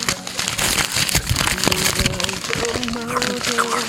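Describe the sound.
Aluminium foil being crinkled and crumpled nonstop, a dense, loud stream of sharp crackles and rustles, with a voice humming or talking faintly underneath toward the end.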